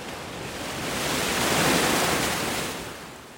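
Ocean waves surge in a broad hiss of surf, swelling to a peak midway and then easing back, with no voices present.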